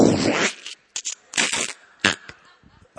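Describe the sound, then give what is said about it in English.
A voice imitates a frog being stepped on barefoot at night in Hawaii: a long, wet, hissing squelch followed by several shorter, clipped squishy bursts with brief silences between them. “And sometimes at night, we would step on frogs. And I mean step on them, and that would be their last moment on earth.”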